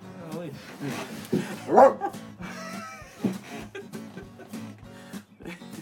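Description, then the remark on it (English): A dog gives a few short, sharp barks and yips, loudest near the middle, with people's voices talking around them and some clattering in the background. “Bark, you gotta bark.”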